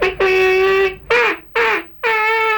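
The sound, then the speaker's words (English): A duck call blown four times in quick succession, a long nasal quack followed by three shorter ones, loud with no talking over it. “Duck call?”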